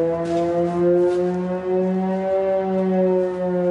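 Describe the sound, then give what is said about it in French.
Air raid warning sirens wail continuously in the village of Liptsy, 20 km from the Russian border, a steady loud drone of stacked harmonic tones with a slight rise and fall, sustained throughout with no pause and no voices. “Dans le village de Liptsy, à 20 km de la frontière avec la Russie, les sirènes d'alerte ne s'arrêtent presque jamais.”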